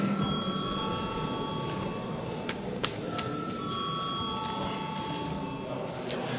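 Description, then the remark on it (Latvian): A parliament voting bell, rung at the chair's request before a vote on amendments to the law on state pensions, rings with steady, high electric tones that sustain and pause, over a constant murmur of people talking, with a couple of sharp clicks midway. “Un es lūdzu zvanu.”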